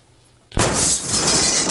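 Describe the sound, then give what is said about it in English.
A 2009 Yaris being rear-ended while sitting still at an intersection: after a brief quiet moment, a sudden loud crash bursts out, followed by about a second of shattering glass and crunching, rattling debris. “Rear-ended.”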